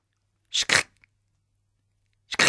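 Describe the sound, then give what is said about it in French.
Crunchy footsteps, as if on snow: two quick steps, a pause of over a second, then two more. Fairly loud, with no voices. “Souris entend des bruits de pas.”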